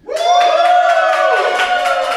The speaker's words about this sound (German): Und das Publikum habt ihr gerade nochmal gehört.